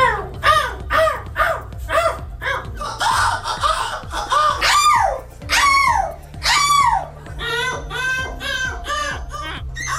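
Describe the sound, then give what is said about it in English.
Competitors at the European Gull Screeching Championship in Belgium mimic seagull screeches, loud, rapid and often overlapping, with rising and falling squawks repeating throughout, over a low steady background hum. “Well, you should know there's a real event where people proudly and loudly pretend to be seagulls.”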